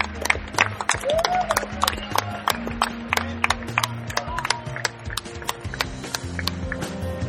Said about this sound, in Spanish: gustaría que todos los colaboradores, todos, no se quedara nadie ahí que lo estoy viendo, subieran aquí para que se lleven un gran aplauso, por favor. Un aplauso para ellos.